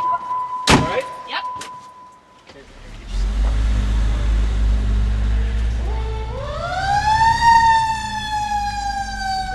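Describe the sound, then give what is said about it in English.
A few short electronic beeps and a tone, then a heavy engine rumbles and a fire truck siren wails in, rising and holding steady over the loud, droning cabin noise, heard from the high back seats inside a 40-foot Contra Costa Fire Protection District Station 6 truck in Concord, California, responding to a call. “It's so loud inside the truck that the guys wear these headphones as if they're in a helicopter to talk to each other.”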